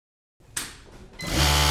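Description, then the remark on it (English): An industrial factory sewing machine starts after a moment of silence, a mechanical clatter that swells into a loud, steady motor whir, growing stronger toward the end, with no voices. “The sound of a factory sewing machine is rarely heard in America today.”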